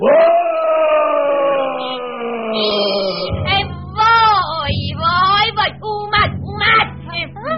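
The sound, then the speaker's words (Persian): A giant's roaring shout, voiced by a person: one long bellow that slides down in pitch, then a string of choppy, growling yells over a low rumbling drone. “چند لحظه نگذشته بود که دوباره صدای فریاد قول اومد.”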